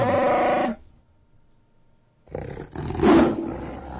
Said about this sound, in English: Oh no, that was a lion. Yeah, that was a lion. I think that was MGM trying to slip their logo in there. That was a lion. Anyway. You see, even the lion had more character, like more emotion in it, in his growl. It sounded like a real animal.